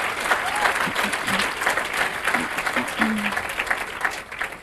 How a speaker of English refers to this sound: And so can we just, again, let's just give a clap for them, because they've just been amazing.